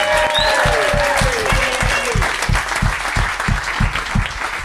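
A big round of applause for a contestant after the result: dense, loud clapping that holds steady throughout, with a few whoops and whistles early on and a regular, rhythmic low thumping underneath.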